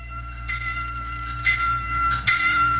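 A warning bell rings with bright, sustained metallic tones, struck about three times at a steady pace over a low rumbling background, with no voices.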